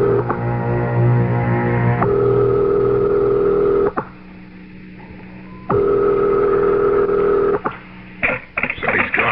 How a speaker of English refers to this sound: Dial. I'll call his private number.